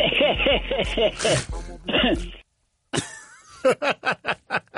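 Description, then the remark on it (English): A man, heard in a recorded drop from The K Show, laughs heartily in rapid, pulsing bursts, breaks off for a moment, then lets out a run of short, harsh coughs, loud. “This was just him one day laughing and then coughing, and it's amazing.”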